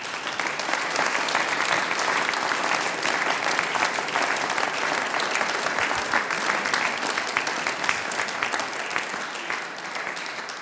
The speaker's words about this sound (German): Dein Applaus. Dankeschön.